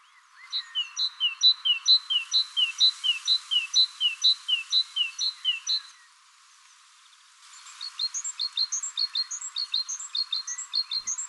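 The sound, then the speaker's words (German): A great tit sings a brisk, repeated two-note phrase in a steady rhythm, clear, in two bursts separated by a short pause, with no voices present. “Aber das war jetzt eine Kohlmeise.”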